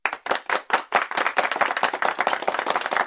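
A burst of clapping, starting with a few distinct sharp claps then swelling into steady, dense applause from a small group, fairly loud, with no talking.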